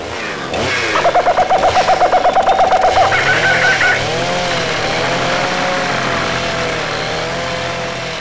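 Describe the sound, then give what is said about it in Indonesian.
Several people cutting down trees with a loud, droning motor saw, heard from a distance: a rapid stuttering buzz at first, then steady revving that rises and dips in pitch over a low rumble, with no voices. “Wow, Monkey melihat beberapa manusia sedang menebang pohon.”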